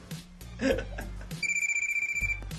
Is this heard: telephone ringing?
yes